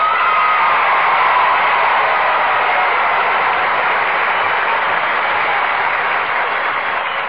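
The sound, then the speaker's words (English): A studio audience applauds steadily for several seconds at the opening of the show Let's Pretend, presented by Cream of Wheat: a dense, loud wash of clapping that holds even throughout with no voices over it. “Well, now, that's a mighty fine round of applause.”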